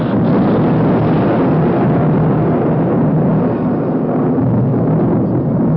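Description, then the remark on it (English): Loud, rolling thunder rumbles continuously for several seconds, a deep, heavy roar that stays powerful throughout with no voices over it. “And when Moses spoke, God answered him in thunder.”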